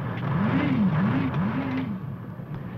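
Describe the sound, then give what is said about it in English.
A loud, steady engine roar from the water-jet pumps of a PBR, a high-speed fiberglass patrol boat, with a droning pitch that rises and falls several times as it revs up and down, continuous throughout. “It is powered at speeds up to 25 knots by water jet pumps, which not only drive the boat, but also steer it.”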